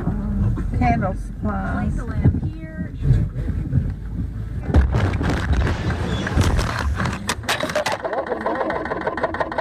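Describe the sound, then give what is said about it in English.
A damaged car, its bottom seemingly torn out and smoking, rumbles along with a heavy, droning low roar, punctuated by bursts of scraping and rattling clatter from underneath, while voices talk briefly near the start. “I just tore my car up though. Listen to the car.”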